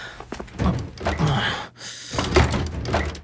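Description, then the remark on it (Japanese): A school gym storage shed door being rattled and tugged against its stuck lock, with repeated knocking thuds and clattering bursts, a brief pause, then more shaking of the stuck door. “いや、なんか体育倉庫の鍵が開かなくて。”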